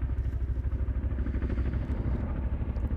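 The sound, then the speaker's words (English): A twin-rotor Chinook helicopter passes overhead above Shelton airfield carrying paratroopers about to jump, its rotors beating out a heavy, rapid low thump over a continuous engine roar that stays loud throughout, with no voices. “So you're hearing another Chinook helicopter now flying over, once again, the Shelton airfield.”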